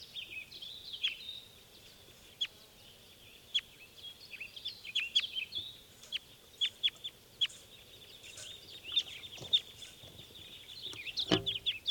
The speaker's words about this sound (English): And those were the wild birds taking off.